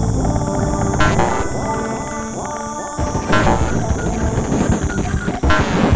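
A truck rumbles past on a road, a steady loud engine roar with rattling, clanking noise layered over it and a few sharper bursts along the way. No one speaks.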